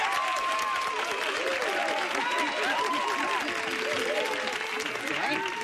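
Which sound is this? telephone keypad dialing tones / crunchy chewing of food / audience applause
audience applause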